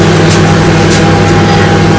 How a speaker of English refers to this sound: I'm going to pop that in the microwave for a couple of seconds, just to see if we can melt it good. Be careful because it can go hard. Back in the microwave.